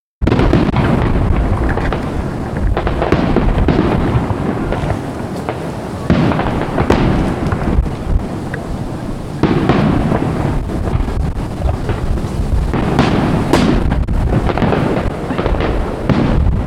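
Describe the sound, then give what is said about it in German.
Continuous aerial fireworks display at the Elbe meadows (Elbwiesen), closing an event, with dense, overlapping booms and crackling bursts, loud and rumbling throughout, with occasional sharper cracks and a windy, noisy texture; no voices. “Als Abschluss gab es wieder ein Höhenfeuerwerk an den Elbwiesen.”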